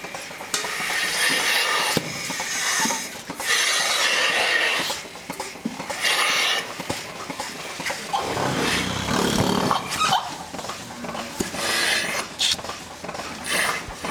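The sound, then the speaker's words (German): Milking machine pulsators run continuously in the separate milking area of a loose-housing cow barn as either the front or rear udder quarters are milked: a loud steady hiss broken by repeated sharp clicks and puffs at an uneven rhythm, with no one talking. “Das ist jetzt das typische Geräusch von der Melkmaschine.”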